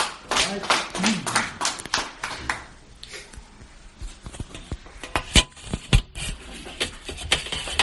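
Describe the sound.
An audience claps in a brief burst of many hands that fades out, then a few scattered, sharp individual claps follow over a low murmur of voices.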